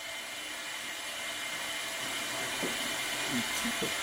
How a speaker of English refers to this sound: Go flush the toilet. Go flush the toilet right now. All right. Let's hear what it sounds like.